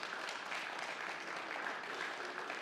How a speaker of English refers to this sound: Listen, if you're clapping, you go ahead. You start. Yes, we can applaud that. Yes.